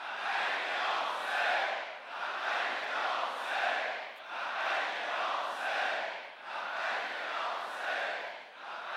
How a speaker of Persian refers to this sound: فشار حد اکثری تو امروز حضور 30 میلیون جوان کنار قبر سید الشهدا شده که همه فریاد میزنن لبیک یا حسین.